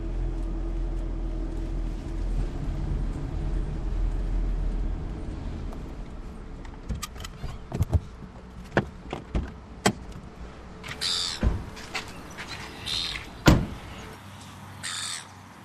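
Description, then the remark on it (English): A car rumbles along a 12-kilometre sand track on the Roe Plain to the Eyre Bird Observatory with a low engine drone for several seconds, then stops; sharp knocks and clunks like doors follow while crows caw loudly overhead. “Well, it's taken about 40 minutes to cover the 12 kilometres of sand track, and here we are at the Eyre Bird Observatory.”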